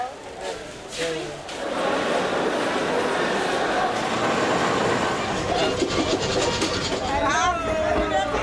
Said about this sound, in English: The train leaves Lagos, Nigeria's largest city, every Friday at about 12 o'clock.